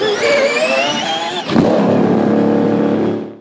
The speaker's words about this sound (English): they had that viral moment earlier this year where it went for like the car would be leaving the pit silently in hybrid mode, and then the engine would kick on, super just gnarly sounding.